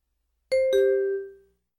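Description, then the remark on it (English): Two bright bell tones ring out in quick succession, a higher strike followed by a lower one, their clear ringing fading away over about a second with no voices. “In some parts of the world, people rang bells in the morning.”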